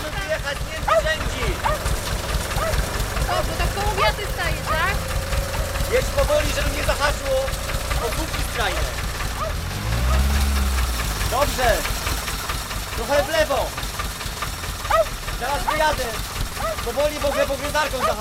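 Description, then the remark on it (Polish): A tractor engine idles at a vineyard near Sulechów, Poland, with a steady, heavy low rumble and knocking throb that runs the whole time, while voices talk over it; a man sits on the tractor. “Nic nie słyszę, może pan wyłączy ten ciągnik.”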